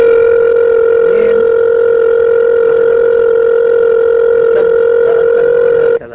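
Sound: telephone ringing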